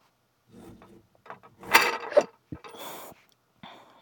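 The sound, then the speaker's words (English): A little, tiny toy Nerf gun is handled, giving a run of plastic clicks, rattles and scrapes in uneven bursts, loudest in the middle, followed by a sharp snap and a brief final click. “Were you going to use that little tiny toy Nerf gun to try to ward me off?”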